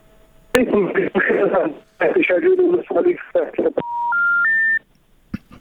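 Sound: phone call dropping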